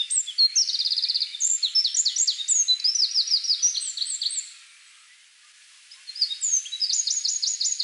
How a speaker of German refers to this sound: Wenn es laut ist, laut und pünktlich zusammen, dann ist es der Zaunkönig.